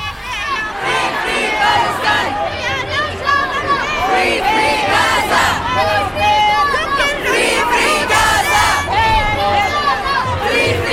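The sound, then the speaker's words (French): A large crowd of 25,000 to 40,000 people gathered in Brussels, at Schuman, fills the whole stretch, loud and steady, with many people shouting and calling out together in a dense, overlapping roar, like a rally crowd chanting. “Hier, en tout cas, la reporter du Canu Info du lundi était à Bruxelles, où entre 25 000 et 40 000 personnes s'étaient rassemblées.”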